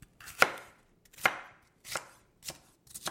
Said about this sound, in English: So I'll start chopping. Maybe you'll help me.